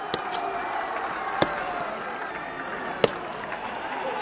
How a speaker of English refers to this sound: As the crowd bellows, "Long live Pakistan," black-clad Pakistani rangers stomp closer and closer to their Indian counterparts, heels clicking.